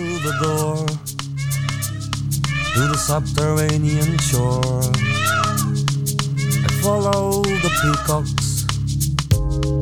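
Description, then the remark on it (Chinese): Repeated cat meows, rising and falling, are woven into a music track over steady low bass tones and crisp rhythmic ticks, recurring throughout at a prominent, even loudness. “这首歌比较有趣一点哦，我等会可以放大声给大家听一下，就是它中间有一段是有猫咪的声音作为配乐组成部分的。”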